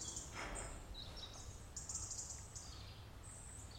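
Several birds sing softly on a farm, overlapping high twittering phrases and chirps repeating throughout, over a quiet outdoor background with a faint low rumble and no voices.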